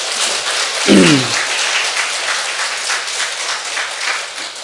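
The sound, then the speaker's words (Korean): An audience claps together in a dense, steady wash of applause lasting several seconds, with a brief low voiced murmur near the start but no clear speech. “우리 박수 한번 칩시다.”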